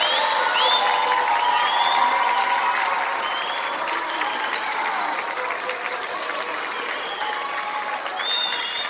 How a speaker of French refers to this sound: Les résultats de la journée ont été annoncés avec l'ensemble des élèves dans le gymnase. Les vainqueurs ont été largement applaudis par leurs pairs.